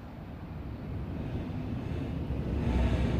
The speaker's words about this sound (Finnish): Ja ottaa minut mukaansa metroon. Me matkustamme metrolla edestakaisin.